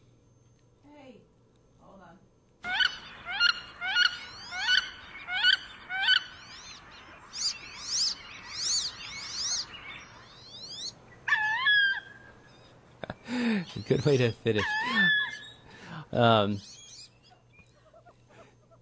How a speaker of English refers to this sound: So that was the wood duck, and what you heard there was, the first part you heard was the ooeek ooeek of the female. It does that when it's alarmed.